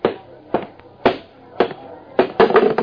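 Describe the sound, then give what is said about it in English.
A plate holding a chocolate burger slammed down on a table by the cook, heard as a series of about six sharp, loud clattering knocks at uneven intervals, each with a brief ringing, crockery-like tail. “Mandy, the cook, slammed the plate down in front of me.”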